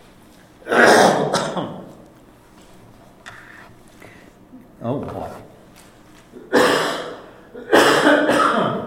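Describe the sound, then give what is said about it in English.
A person coughs and clears their throat in several loud, harsh bursts with short pauses between them and a brief spoken remark in the middle. “You can digest while I cough.”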